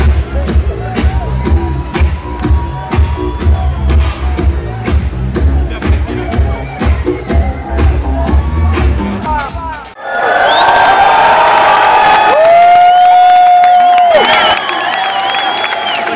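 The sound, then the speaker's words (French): Loud noise at the Trans music festival in Rennes: thumping, beat-driven music with heavy bass gives way to a roaring crowd cheering and shouting, with a sustained high whistle-like tone cutting through for a couple of seconds. “Il y avait plein de monde. Plein de bruit. Plein de lumière.”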